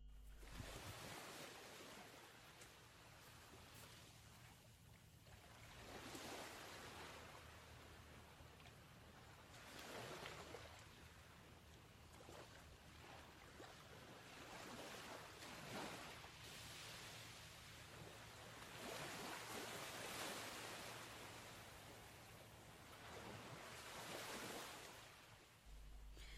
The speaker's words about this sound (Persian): خب یک صدای دیگه که در جوابهای شما خیلی بهش اشاره شده بود صدای موج دریا بود.